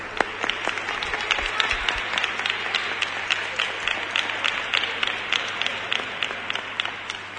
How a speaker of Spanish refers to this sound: Un aplauso para los Reyes Magos.